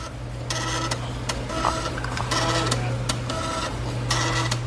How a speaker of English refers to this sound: A floppy disk being read, especially when you've got six more to go after this one finishes. Now, I remember floppy disks, but I did not remember a sound that it made.